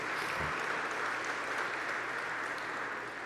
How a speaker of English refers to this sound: I think you deserve applause for that, don't you?